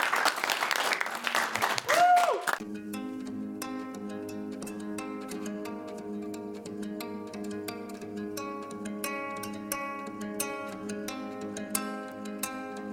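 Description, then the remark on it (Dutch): A burst of audience applause for the day's four experts, loud and dense, fills the first couple of seconds, then cuts off as a steady music track takes over for the rest. “Dank jullie wel en een groot applaus aan de 4 experts van vandaag.”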